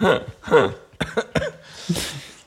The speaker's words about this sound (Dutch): Met die hoest van je.